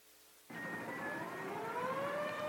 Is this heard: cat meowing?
no